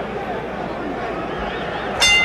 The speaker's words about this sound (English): Round one, the bell sounds, and here we go.